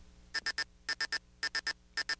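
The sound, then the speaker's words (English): A bright electronic warning signal sound effect beeps in quick bursts of three, repeating four times in a steady rhythm, loud with no voices. “Huh, warning single.”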